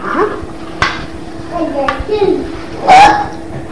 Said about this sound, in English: I burped again.